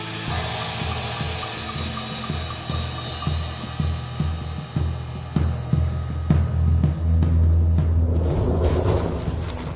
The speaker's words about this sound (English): Hear that? Thunder. Oh, it's amazing, you know. Sun, I tell you, it's going to be rain within a few hours. It's all moving this way.